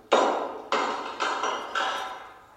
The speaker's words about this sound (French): Prenez ce gros marteau, cassez-le. Dépêchez-vous.